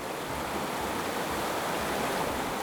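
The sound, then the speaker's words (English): Fast-running stream water rushes in a steady, dense wash of noise that stays constant throughout, with no voices or other sounds. “While the water was running fast down the stream, with a jump the kids made it, but I had to swim.”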